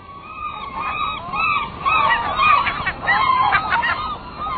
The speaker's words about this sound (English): The loud bugling call of gulls is unmistakable. One of nature's most familiar voices.